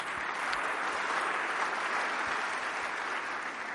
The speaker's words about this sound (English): Let's give a hand clap to the Lord.